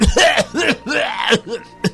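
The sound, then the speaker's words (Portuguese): A person clears their throat several times in quick succession, loud, with raspy, voiced bursts and a final short hack, with no talking. “Por que eu tenho esse pigarrinho?”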